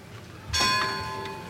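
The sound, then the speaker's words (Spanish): A church bell strikes once with a bright, ringing tone that hangs in the air and slowly fades, heard alone over a quiet background. “Las campanas, cirios al cuadril.”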